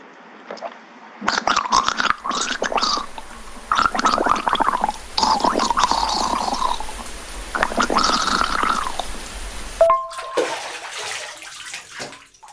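Loud gurgling and bubbling water in a series of churning bursts lasting several seconds, the sound of a person turning into water, followed by a brief sharp blip and a quieter, fading tail.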